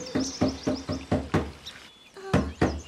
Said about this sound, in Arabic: وقد طرق الفيل الباب. أكثر من مرة طرقت الباب ولكن لم يفتح أحد.